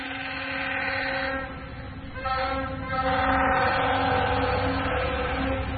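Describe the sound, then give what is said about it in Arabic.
A train rumbles past, a steady low roar layered with sustained tonal whining that swells louder about halfway through and holds to the end, with no one talking. “إذا ذب القطار بنقف ولا بنواصل؟”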